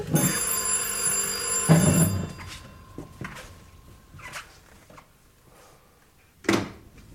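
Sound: telephone bell ringing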